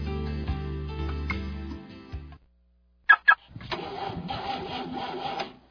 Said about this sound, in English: my car won't start.